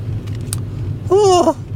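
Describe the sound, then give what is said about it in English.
A water ride car rumbles steadily along its track, slowing down, a low continuous drone throughout, with a short high-pitched squeal rising over it near the end. “Why is this car slowing down?”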